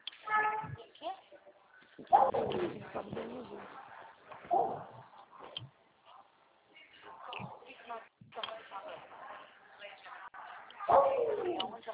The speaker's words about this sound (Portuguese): Cachorro